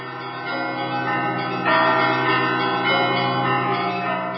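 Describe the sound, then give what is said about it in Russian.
Church bells ring out over the old town of Torzhok, Russia, in a full, jubilant peal, dense overlapping strikes sustaining a continuous shimmering toll that swells louder midway, with no voices present. “После 70 лет молчания сегодня ликующий колокольный звон плывет вновь над Торжком, зовя каждого из нас к вечной радости.”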